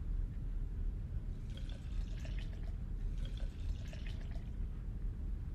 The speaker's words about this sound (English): Pour me some. I thought you said it was too early. It's never too early to drink to a fallen friend.